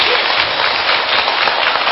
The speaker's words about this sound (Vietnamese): Xin các quý Phật tử dành một tràng vỗ tay thật nồng liệt